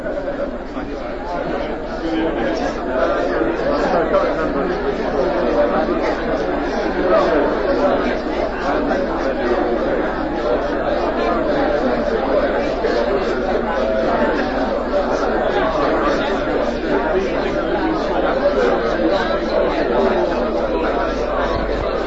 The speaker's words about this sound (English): If you're listening to this on tape, there's a terrific buzz of conversation around the room.